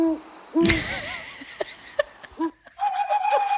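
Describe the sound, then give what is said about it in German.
An owl hoots several times in short, wavering calls, loud, mixed with bright chirping tones and a sudden burst of noise, played from an owl-sounds phone app, with no one speaking. “Das war die ESO-Eule. Die App heißt Owl Sounds, also Eulengeräusche.”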